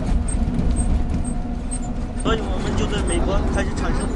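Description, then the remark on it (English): A steady low engine rumble fills a long-distance bus heading west on Route 312 along the Silk Road, while voices in another language come through as a Kung Fu movie plays on board, growing more animated partway through. “If the music of the old Silk Road was the sound of camel caravans, the theme tune of the new Silk Road is the Kung Fu movie on the long-distance bus.”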